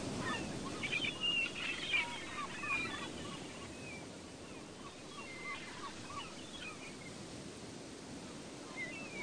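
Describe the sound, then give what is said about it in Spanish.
Seagulls call out in short, scattered cries high in a blue sky, clearest near the start and again midway, over a steady wash of ocean surf that rolls on throughout with no voices. “Las gaviotas trinan en lo alto de ese cielo azul que te arropa.”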